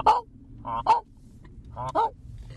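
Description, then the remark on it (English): A flock of geese honking in a run of harsh, nasal calls, several in quick pairs with short pauses between, over a low rumbling background. No one speaks. “Sometimes you can hear them coming. All honking away.”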